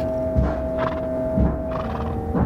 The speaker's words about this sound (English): Three of the horses are banging the buckets on a trough, and the main one in the middle is playing an old harmonium that we left in the shed. He plays it with the back of his head.